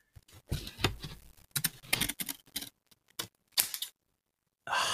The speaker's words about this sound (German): Ich muss noch die Lose fertig machen. Ja, ja, geil. Ja, dann mach das doch mal. Ich halte die Schere mal so ein bisschen ans Mikro. Oh ja. Hört man das Schneidegeräusch? Mach mal noch ein bisschen näher.